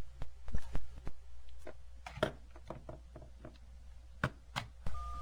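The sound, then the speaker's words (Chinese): A phone call being dialed for a television program's phone link with a guest in Thailand: a quick string of sharp clicks and taps over a low steady hum, ending with a short electronic tone as the line connects. No one speaks. “那么我们呢就采用这个电话连线的方式哦”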